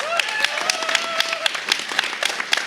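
A crowd applauds steadily, with dense, crackling claps throughout. A held, wavering tone sounds over the first half, then the clapping carries on alone at an even level.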